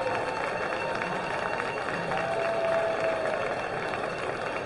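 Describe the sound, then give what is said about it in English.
At a Lugnuts minor league baseball game, a largely Michigan State crowd applauds and cheers the pitcher leaving after six and a third innings, in a steady, dense roar that holds level throughout, with a faint sustained whistle-like tone rising out of it partway through. No one speaks over it. “And the crowd's letting him know it.”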